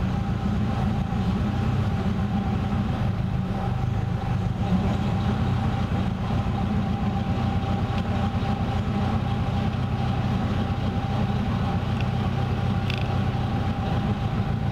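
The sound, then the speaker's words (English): A car engine of the type used in the Phantom IV state limousines idles at about 400 RPM, a steady, deep rumbling drone that stays even for the whole stretch, with no voices over it. “That's 400 RPM. How about that? How many engines do you know will tick over at 400 RPM?”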